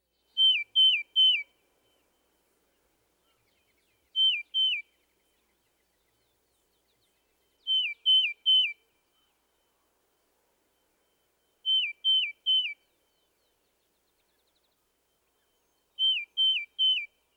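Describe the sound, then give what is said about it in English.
A tufted titmouse sings clear, slightly downslurred whistles in quick runs of two or three notes, repeated about every four seconds against silence, sounding bright. “The tufted titmouse's whistled song has two basic variations. At times, he sings a slightly downslurred, here, here, here.”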